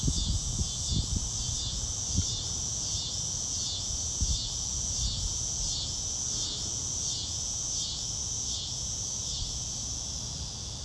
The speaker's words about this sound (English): Harmonize with the cicadas.